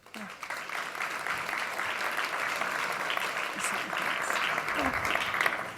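Steady applause from an audience at a winter congress welcoming a speaker, a dense crackle of many hands clapping at an even, moderate loudness that swells slightly toward the end without any voices standing out.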